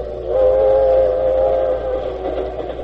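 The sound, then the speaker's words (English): A special train on its way to New York, around 1908, rumbles steadily along with a continuous low drone, while a sustained whistle-like tone rings over it for most of the few seconds; no one speaks. “One night we were on our way back to New York in his special train.”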